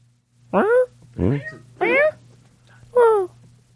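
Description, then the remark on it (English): A human voice imitating a cat, giving four drawn-out, loud meows about half a second each, spaced evenly with short pauses, over a faint steady low hum. “Hello, Kitty. What am I?”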